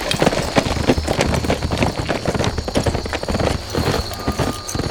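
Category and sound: animal, horses galloping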